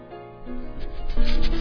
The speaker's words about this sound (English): Do not adjust your station. That's not static. It's a dozen dogs who got the number 2 flea control product just 1 week ago, and they're already scratching away.